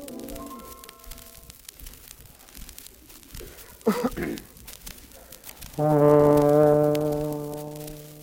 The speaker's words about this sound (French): Ça, c'est le murmure des turbines.